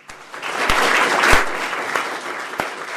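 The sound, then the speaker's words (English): A crowd of students at Anaconda High, stepped out of their rooms into the halls, cheers and claps for the new lieutenant governor and Governor Bullock in a steady, dense burst of applause, with a few sharper individual claps and shouts standing out over the continuous noise. “She heads down the halls of Anaconda High with Governor Bullock to the cheers and applause of students who have stepped out of their rooms for a minute.”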